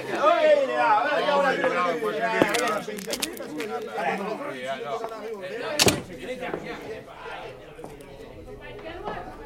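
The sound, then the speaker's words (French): A door opens with a couple of sharp clicks and a louder thump midway, over a steady background of overlapping voices and murmuring chatter. “Une porte qui s'ouvre.”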